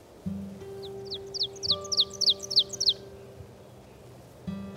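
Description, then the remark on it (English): An ovenbird, sometimes called the teacher bird, sings a ringing series of about eight repeated two-note phrases that build steadily in loudness, heard over a faint low background hum. “The oven bird, sometimes called teacher bird, from its song.”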